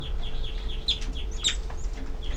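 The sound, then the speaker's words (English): Young birds make begging calls: a steady stream of thin, high-pitched cheeps repeating rapidly and overlapping, with a couple of sharper, louder notes, over a low background rumble. “These are the babies giving begging calls.”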